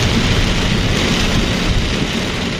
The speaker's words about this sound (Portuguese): O que escoitan é como pegaba a choiva contra o parabrisas do coche esta mañá, a primeira hora.